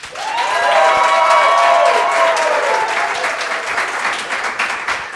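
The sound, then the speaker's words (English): A crowd votes by applause for option number two, with dense, continuous clapping, joined early on by rising whoops and cheers that fade, leaving sustained loud applause for about five seconds. “It sounds like one's out, so let's do applause for number two.”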